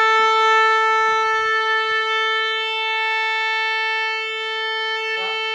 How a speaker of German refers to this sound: Trompete und Clairon 4, der Ton. Ja. Mindestens 4 Stunden braucht es, um die Orgel durchzustimmen.